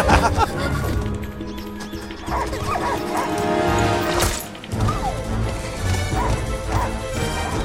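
A dog barks and yips several times amid loud crashing and banging, with a dense, chaotic wash of noise filling the scene throughout.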